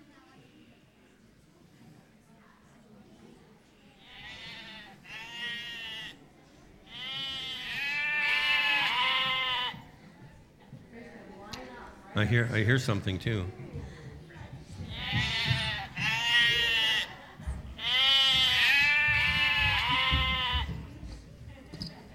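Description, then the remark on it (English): Several people wearing sheep heads imitate goats with loud, wavering bleats in repeated bursts, with a brief burst of clattering noise midway and a short spoken line among them. “We only had sheep heads, so they're pretending to be goats.”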